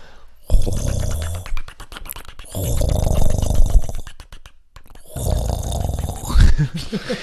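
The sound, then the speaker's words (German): Voices mimic a gurgling, splashing filter coffee machine in three bursts of rough, bubbling, snore-like rasps with short gaps between, fairly loud, with no words spoken. “Oh, sollen wir eine Kaffeemaschinen-Imitation machen?”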